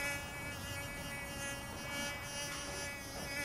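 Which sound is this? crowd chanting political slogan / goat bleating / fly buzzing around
fly buzzing around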